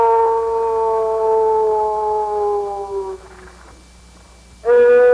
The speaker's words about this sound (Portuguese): Cidades do interior do Brasil, o silêncio da tarde era quebrado por um grito de aboio. Ei, boi!